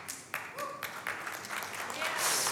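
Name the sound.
audience clapping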